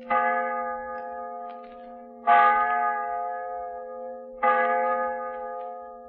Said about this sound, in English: I come from a small town in Wisconsin, and what I'd like to hear is the old village church bell. Don't ask me why. I'd just like to hear it. Thanks. Okay, Sergeant. Here's your wish. The old village church bell.